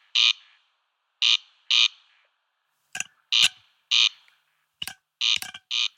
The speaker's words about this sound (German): Genau, das ist eine Rallenart, die gerne in naturnahen Wiesen anzutreffen ist, wenn sie denn dort vorkommt. Und das ist? Das ist der Wachtelkönig. Auf Latein Crex Crex, auch sehr gut sein Gesang abbildet. Und ich spiele ihn mal ab.